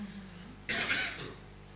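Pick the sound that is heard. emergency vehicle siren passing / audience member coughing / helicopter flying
audience member coughing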